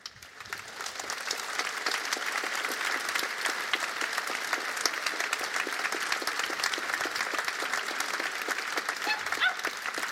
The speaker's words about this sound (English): And since people are applauding to this, to overcome it, it is necessary, don't forget, it is necessary to remember why it came about.